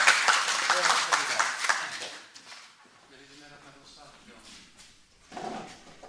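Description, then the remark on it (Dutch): Loud audience applause for a speaker after an afternoon talk, with dense, crackling clapping filling the first two seconds, then dying away; people's voices continue faintly afterward, with a brief louder burst of sound near the end. “Even applaus voor de”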